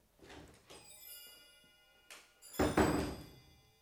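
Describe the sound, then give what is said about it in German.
A few small metallic clicks and rattles, then a short pause before a heavy door thuds shut with a dull, full-bodied bang as someone leaves and locks up. No one speaks. “Ich gehe jetzt und sperre zu.”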